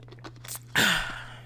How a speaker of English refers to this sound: Let me drink some water on that.